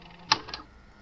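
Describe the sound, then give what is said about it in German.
A tape machine playing back recorded tapes is stopped and rewound a little: two sharp mechanical clicks about a quarter second apart, the first louder, with a faint whirr between them, then a quiet hiss. “Ich spule noch mal einen Ticken zurück.”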